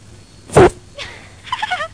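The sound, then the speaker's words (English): A toy's fart mechanism sounds: a short, loud, raspy burst, then a fainter squeak and a wavering, squeaky trill. No one speaks. “I'm just going to take her fart mechanism off, please.”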